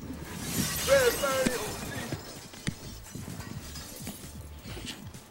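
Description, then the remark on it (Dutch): A record is deliberately smashed with a bright, sharp crash, followed by scattered tinkling and clattering fragments settling, with faint background murmur and knocks. “Nou, ga je gang jongen, laat maar eens zien. Tjonge, joh, mis ook. Ja, nou, helemaal kapot hè, helemaal kapot.”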